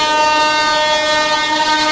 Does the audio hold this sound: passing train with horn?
yes